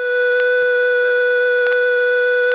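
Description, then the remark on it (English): A steady, continuous electronic tone hums at an even level throughout, buzzy and slightly harsh: a telephone exchange high tone on a line held on permanent signal, with a few faint clicks underneath. “Now the recording leads to the receiver off hook tone, which leads back to the high tone.”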